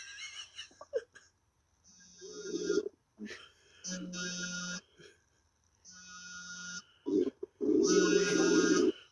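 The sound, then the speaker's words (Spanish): Tinny snoring comes through a phone line: four or five rasping, buzzy breaths in a steady rhythm, each lasting about a second, fairly loud with short pauses between them. “Sigue roncando.”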